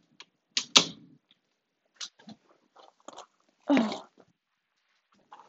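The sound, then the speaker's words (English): A door opens and shuts: a sharp latch click and creak, a few scattered knocks and rattles, then a heavier thump as it closes, with nobody speaking. “My door really just opened while I was talking.”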